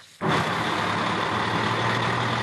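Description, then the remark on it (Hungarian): A heavy truck engine rumbles loudly at a haulage company's truck yard in Szekszárd, Hungary, kicking in abruptly after a brief quiet moment and holding a steady, dense roar with a low throbbing hum underneath, with no voices. “30 éve foglalkozik teherfuvarozással ennek a szekszárdi telepnek a tulajdonosa. 15 kamionja van, mindegyik átlagosan 10.000 kilométert fut havonta.”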